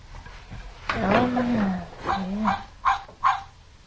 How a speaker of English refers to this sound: I hear a dog. I hear a dog. Ruff, ruff, ruff, ruff.